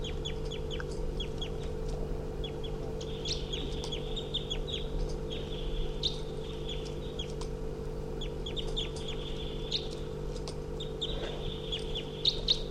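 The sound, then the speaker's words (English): A wild female bird on the ground, hopping around, calls loudly nearby, repeatedly in quick bursts of high, chirping notes that stand out clearly over a steady low mechanical hum. No one speaks. “There's a wild bird calling loudly nearby.”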